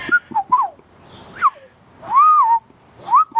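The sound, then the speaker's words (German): A person whistles an imitation of a golden oriole's song: short fluting phrases, then a longer sliding, warbling note and a final rising flourish, clear and fairly loud with no talking. “Das ist ja ein ganz besonderer Ton, den die Pyrole machen. Der macht immer so.”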